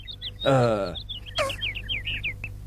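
A chick chirps over and over in quick, high-pitched peeps that run through the whole clip, briefly interrupted by a louder, lower wavering cry near the start and a short squeal midway.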